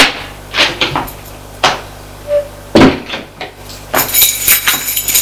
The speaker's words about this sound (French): Arrivé au premier étage, ils trouvent la chambre. Ouvre la porte.